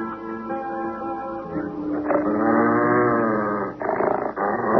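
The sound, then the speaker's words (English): A dog growls loudly and continuously, a rough, throaty snarl that swells and holds for several seconds with only a brief dip near the end, no voices. “Now get rid of this dog.”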